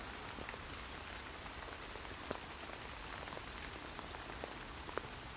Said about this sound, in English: Not only have we still got strong winds gusting occasionally, but now we've got teeming rain.